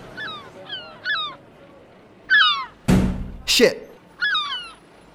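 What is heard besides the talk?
seagull call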